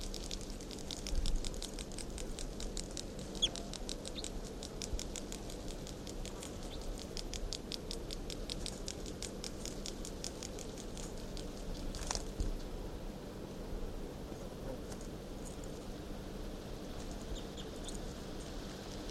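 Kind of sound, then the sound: bird, bird song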